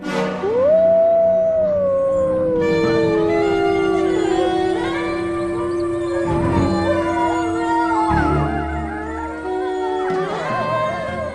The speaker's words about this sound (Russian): Это «Воют волки».